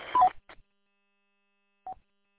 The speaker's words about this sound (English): Okay, so the Roger beep is definitely there. Definitely take that out.